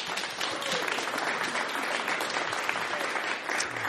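Steady applause from an audience at a live music event as the stage is reset for the next musicians, a dense wash of many hands clapping at an even, fairly loud level throughout, with no voices standing out.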